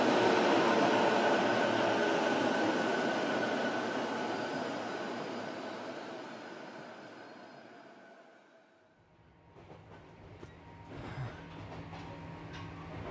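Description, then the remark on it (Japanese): The last train rumbles loudly into a quiet, dimly lit station, its broad roar steadily fading as it slows to a stop. Then comes a quieter idling hum with faint clanks and mechanical noises. “そしてその暗さを切り開くように最終電車のライトが光った。”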